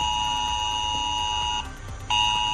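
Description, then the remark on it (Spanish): A harsh, continuous Civil Protection emergency alert tone blares from thousands of mobile phones in Veriña, La Calzada, Jove and around El Musel during a drill, a loud steady buzzing beep that cuts out briefly near the end before resuming. “Además de las sirenas, entre las 10:30 y las 11 de esta mañana, miles de teléfonos móviles de Veriña, la calzada, Jove o el entorno del Musel han sonado así.”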